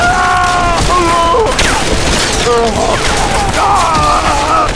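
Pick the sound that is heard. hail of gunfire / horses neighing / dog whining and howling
hail of gunfire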